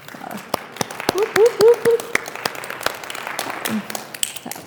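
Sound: audience clapping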